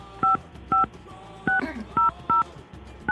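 Six crisp, loud touch-tone dialing beeps, tapped out at a slightly uneven pace with brief gaps of faint background noise between them, as a phone call is placed to the Kyoto Sanga public relations manager; no one speaks.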